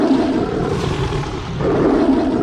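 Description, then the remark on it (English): A long, unearthly howl, deep and roaring, reverberating through still air, swells steadily over two and a half seconds, dipping slightly midway before surging again, loud and sustained with no talking. “As he sat there, transfixed by the entity's gaze, it suddenly leapt from the step to come pouncing down towards him, as an unearthly howl reverberated through the still air.”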